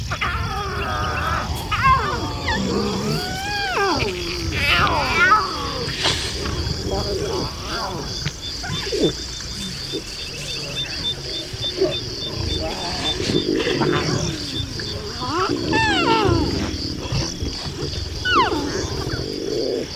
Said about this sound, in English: The low growling sounds on this track are from the females as they tried to maintain order and corral the cubs.